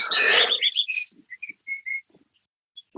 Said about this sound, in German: Ja, ich höre hier die Vögel.